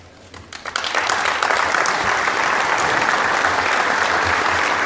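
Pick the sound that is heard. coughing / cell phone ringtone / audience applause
audience applause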